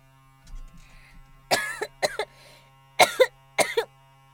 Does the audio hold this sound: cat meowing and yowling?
no